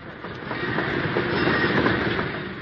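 A steam train, not a passenger train, rolls along the rails into a station with a steady, loud rumble and a faint rhythmic clatter of wheels, holding an even level throughout with no voices.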